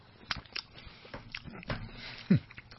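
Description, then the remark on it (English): Wet chewing and biting on grilled pineapple and coconut by several people, soft and juicy, with a handful of irregular crunchy bursts and smacking sounds at moderate volume, and no one speaking. “So I'm also gonna take a bite. Everyone chewing, everyone else.”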